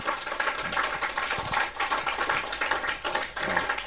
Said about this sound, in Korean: 박수.